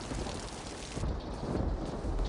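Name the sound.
rain falling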